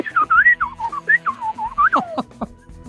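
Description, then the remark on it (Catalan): A man on the telephone whistles an imitation of a canary: a quick run of bright, warbling chirps and trills sliding up and down in pitch, ending in a few sharp rising notes, with no talking. “O com diria un canari.”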